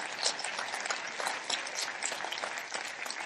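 A church audience claps steadily in sustained, dense applause as a clap offering to God, many hands together at a fairly even loudness throughout, with a few indistinct voices mixed in underneath.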